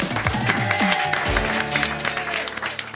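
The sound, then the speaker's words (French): Sustained applause from a TV studio audience welcoming author Géraldine Maillet, a dense crackle of many hands clapping steadily for the full three seconds, with a faint murmur of voices underneath. “Applaudissements pour Géraldine Maillet.”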